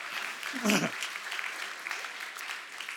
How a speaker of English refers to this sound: And so, yeah, you can applaud yourselves, I guess, right?